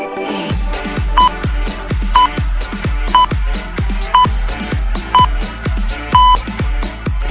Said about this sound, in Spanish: Las señales horarias nos marcan la llegada de la 1 de la tarde, periodo para la participación, para las dedicatorias musicales en La Mañana de Priego.